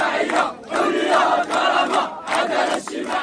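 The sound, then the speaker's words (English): A large crowd of youth-led protesters in Morocco chants loudly in unison "Social justice, freedom, dignity, we want accountability." Voices rise and fall in rhythmic bursts roughly every half second, forming a dense, continuous roar of many people shouting together. “This video from The Guardian shows a crowd of Moroccan protesters chanting, "Social justice, freedom, dignity, we want accountability."”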